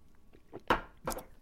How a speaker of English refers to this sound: I was kind of proud of coming up with this beverage. I'm going to take one more sip of this.